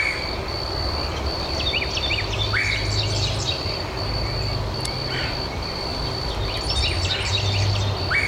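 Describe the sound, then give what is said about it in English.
A Carolina wren's rolling repeated song and a red-headed woodpecker's harsh "queer" calls ring out over steady low rumbling, with other small birds chirping faintly throughout. “The one that's dooley dooley dooley is the Carolina wren, and the one that's saying the queer, queer, queer, we'll play it again.”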